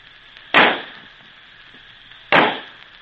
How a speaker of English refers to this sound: Then suddenly came a great sizzling sound, a loud bang, a red ball of light shot high in the air.